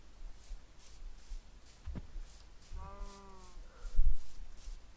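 sheep bleating

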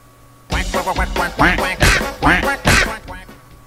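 video game duck quacking

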